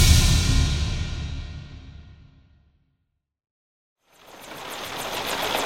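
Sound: heavy rain falling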